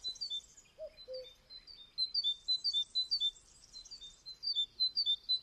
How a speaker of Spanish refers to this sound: Este paisaje sonoro lo escribe con su voz el cuco, o el chichipán, que es como acertadamente se denomina al carbonero común.